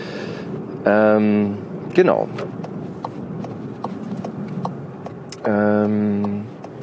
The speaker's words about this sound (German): Ich weiß nicht, ob ihr es merkt, ich bin gerade im Auto unterwegs, aber da kann ich natürlich auch mal ganz gut so einen Podcast aufnehmen. So, also wundert euch nicht, wenn ich ab und zu mal schalte oder abbiegen muss.